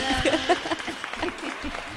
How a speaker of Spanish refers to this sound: Ahí pongo unos aplausos